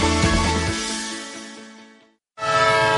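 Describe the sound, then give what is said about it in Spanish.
A loud train horn blares in a long sustained tone as a train departs, fades slightly, cuts off for a moment, then sounds again strong. No one speaks. “Un tren que se va.”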